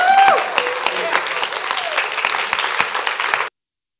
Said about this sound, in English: Come on, stand to your feet and say, more and more and more. And more of him. Come on, give me a hand clap and a shout.